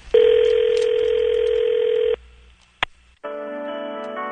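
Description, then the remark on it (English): A telephone dial tone hums steadily for about two seconds, then a single sharp dialing beep sounds, followed by a buzzy, multi-toned ringing tone as a call to the Eggies hotline goes through. “Hello, and thank you for calling the Eggie Hotline.”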